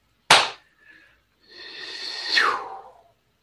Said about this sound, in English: At the count of three, after the count of three, I'm going to clap. You're welcome to clap with me if you wish to seal the work. One, two, three.